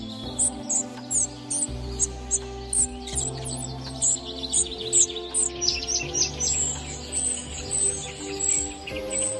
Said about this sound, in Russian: Серая мухоловка – скромно окрашенная птица с весьма скромным набором звуков и тихой неброской песней. Вот она.